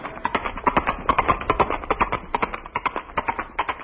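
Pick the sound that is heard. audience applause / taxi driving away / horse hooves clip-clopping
horse hooves clip-clopping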